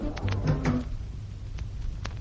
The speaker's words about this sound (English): Oh, just a minute, I'll shut the door.